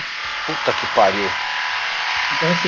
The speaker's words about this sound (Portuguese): Tá escutando aí, galera? Tô escutando. Não, viu? Não sou eu, mano? Não, agora ligaram a furadeira aqui, mano.